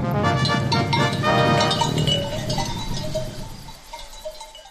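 A flock of sheep on open pasture of the village of Hrastićevo on a sunny autumn morning, many overlapping bleats mixed with clinking bells, dense at first, then thinning out to a few scattered calls and bell tinkles.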